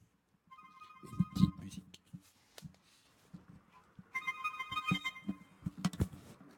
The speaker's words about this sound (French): Téléphone.